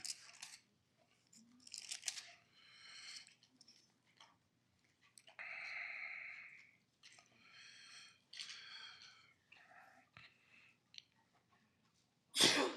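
A sharp, loud sneeze bursts out near the end, after a stretch of quieter rustling, snipping and breathy noises with no one talking.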